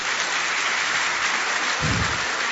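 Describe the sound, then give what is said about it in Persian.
An audience claps steadily in honour of the programme's female admin, a dense, even crackle of many hands that holds at the same loudness throughout, with a brief low thump near the end and no voices. “درست تشویقش کنید.”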